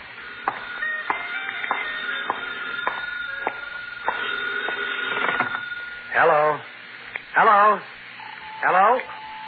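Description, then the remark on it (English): A telephone in a phone booth rings with three evenly spaced warbling bursts, loud and somewhat tinny, following a stretch of muffled background clatter and faint tones. “Hey, maybe that's your call now.”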